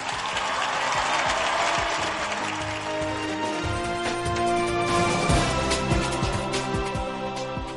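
A large crowd claps loudly and steadily for several seconds, a dense wash of hand claps filling a reverberant space with no voices standing out.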